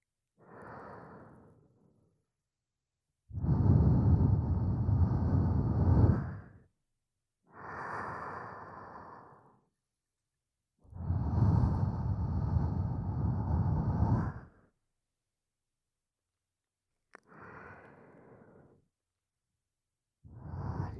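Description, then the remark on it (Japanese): Slow, soft warm breaths blown at the ear to warm it before an ear massage, in a series of long, airy exhales, alternating louder and gentler puffs with quiet pauses between them and no talking. “私の吐息、あったかいですか。”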